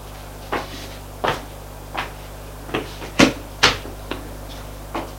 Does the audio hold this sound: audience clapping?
no